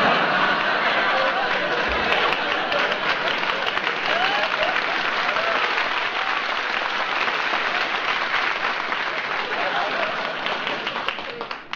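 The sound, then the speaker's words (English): Sustained, dense applause from a large audience for a performer who came in singing Jingle Bells, a steady wash of many hands clapping at full volume for about twelve seconds before starting to taper at the very end. “You got more applause than I do.”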